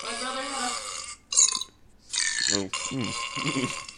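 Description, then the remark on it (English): A series of loud burps, some long and rumbling, others short and croaky, separated by brief pauses, with a rough, gurgling texture throughout. “There's like a whole page dedicated to fart sounds. Oh, good. Of course there is. If there wasn't, I would be very sad. And burp sounds.”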